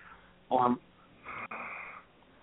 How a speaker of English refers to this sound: There's somebody breathing on the line. You hear that?